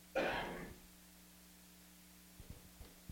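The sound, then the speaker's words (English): A single sharp, loud sneeze bursts out and quickly trails off, followed by a low steady hum and a few faint clicks in otherwise quiet surroundings. “Bless you.”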